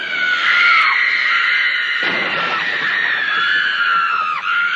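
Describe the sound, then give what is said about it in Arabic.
A young girl screams for help in her family's home, waking her father; her high, sustained scream rings out loud, wavering in pitch for several seconds without a break, with no talking around it. “هذا أبو استيقظ من نومه فزعا خائفا على صراخ في بيته، فمن كان الصارخ المستغيث؟ لقد كانت بنيته الصغيرة.”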